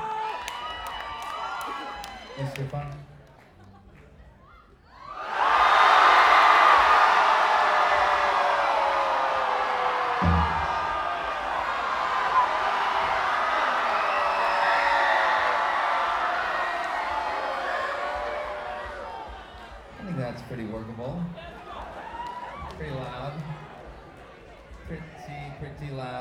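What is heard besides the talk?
audience screaming and cheering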